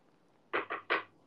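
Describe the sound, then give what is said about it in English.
Three quick, evenly spaced knocks on a table, each a short, solid thump of moderate loudness, with quiet before and after and no voices. “Wait, I'll put you guys beside her, and I'll try and knock on, like, a table or something.”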